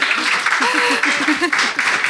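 An audience applauds steadily, a dense wash of many hands clapping at full volume from start to finish, with a few voices calling and cheering underneath.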